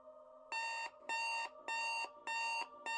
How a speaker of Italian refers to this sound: Non mi pare il suono dello shofar. Questo mi sembra piuttosto un trillo, uno squillo, un cicalino. Sì, devo ammettere che manca dell'arcana profondità, maestosità e potenza del sacro strumento. Robaccia elettronica.